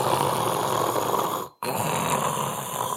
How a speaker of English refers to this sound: Whereas if you breathe through your mouth, there's zero resistance. I just took 2 liters of air right into my lungs. Zero resistance. It goes instantly in.